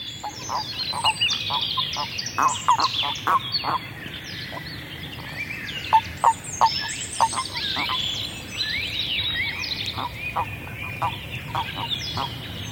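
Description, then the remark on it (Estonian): Common toads singing, recorded from the shore: a steady run of short, mid-pitched croaking pulses in loose bursts, with faint high bird twittering in the background throughout. “Ja mänginki ette võrdluseks kärnkonna laulu salvestatud kaldalt.”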